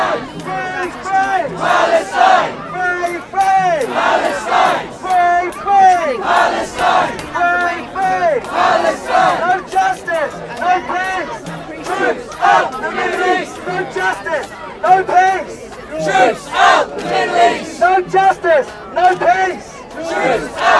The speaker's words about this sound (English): The Stop the War coalition has joined the demonstration, and this is what they're shouting about.